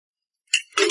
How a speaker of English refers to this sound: We've got to wash the dishes. The robots are piling up the dishes in the sink.